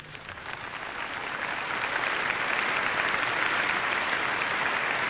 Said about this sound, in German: Das ist euer Applaus, den müsste man ins Polnische, Russische, Englische, Französische, Arabische, Türkische, Spanische, Koreanische und was auch sonst übersetzen. Aber die Geste der Hand ist ja verständlich.